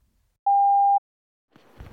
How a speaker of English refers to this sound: And if you don't want to hear our responses to it, just keep fast forwarding until you hear another voicemail beep.